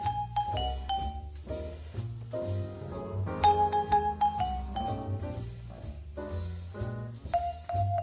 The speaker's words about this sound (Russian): Еще один элемент – это демпфер, глушитель с педалью. Он просто-напросто необходим, так как звук вибрафона очень продолжителен и окончательно затухает лишь через 8-10 секунд после удара.